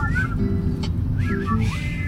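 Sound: person attempting to whistle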